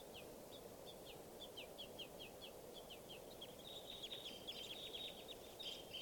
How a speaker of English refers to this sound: and the wild crossbills are up in the trees, and this is bird .387 calling here, begging baby in the trees. I'm going to point exclusively at the wild birds now. And they're begging babies here.